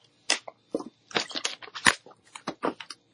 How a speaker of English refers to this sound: give me a second. I got to take a sip of water.